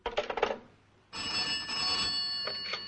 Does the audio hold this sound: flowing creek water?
no